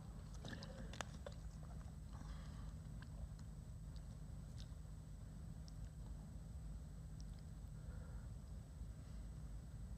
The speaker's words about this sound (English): All right. Got to get my little sip of water here.